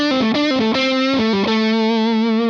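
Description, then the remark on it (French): A distorted electric guitar with a thick, saturated tone, set to approach a guitarist's "woman tone", plays a quick run of single notes, then holds one long note that wavers with vibrato. It is loud and steady, with no voices. “On passe maintenant dans le domaine saturé, où là, la tonalité va nous permettre de nous rapprocher du woman tone de ….”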